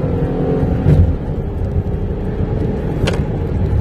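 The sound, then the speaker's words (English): A car engine drones steadily with heavy low rumble and road noise, holding a loud, even level throughout as the driver hits the gas and accelerates onto a highway in the morning, with a couple of brief higher whooshes. “And, well, yeah, I just hit the gas.”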